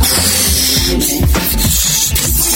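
A loud, continuous squealing hiss of air escaping from a stretched balloon neck, its pitch wobbling and sliding for a couple of seconds, with no talking; childish fun with a balloon on New Year's Day.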